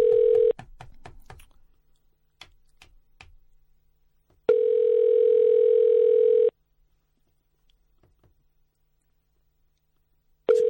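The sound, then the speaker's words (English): An outgoing call's ringback tone on a call to Bar Hop, a bar at 391 King Street West in Toronto: a steady, buzzy electronic tone about two seconds long, repeating after roughly four seconds of quiet, with faint clicks and handling noises between rings. “They don't even know what they think that ringing is in their heads.”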